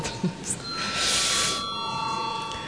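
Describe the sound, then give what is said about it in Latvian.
A steady electronic voting bell rings continuously for a few seconds in the Latvian parliament before a vote, moderately loud, with a brief burst of rustling noise midway and faint background sounds behind it. “Lūdzu zvanu, jā.”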